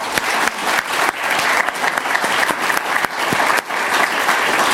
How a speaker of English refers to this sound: You'll hear me thank him many times, but first a thank you and applause to him.